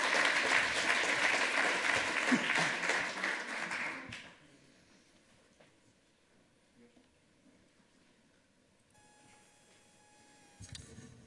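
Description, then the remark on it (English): A conference audience applauds loudly for about four seconds for the audio team helping run the lightning talks, a dense wash of many hands clapping, then it cuts off abruptly, leaving quiet room tone and faint tones near the end. “Another thing you can do with your lightning talk is show a video, and our audio angel, big round of applause for these angels that are helping me do this thing right now, because I could not do it without them.”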